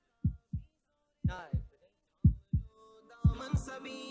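A heartbeat suspense effect in a tune-recognition quiz match between Multan and Faisalabad, with a decision due in 10 seconds, thumps out four quick lub-dub pairs, deep and punchy, with a rising tonal swell and shimmer creeping in under the later beats to build tension.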